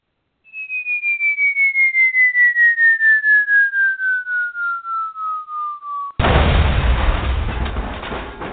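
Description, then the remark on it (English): A cartoon-style falling bomb sound effect: a long, steadily descending whistle that pulses slightly, then a loud, rumbling explosion that slowly fades out. No voices are heard. “I don't even know what kind of bomb was that?”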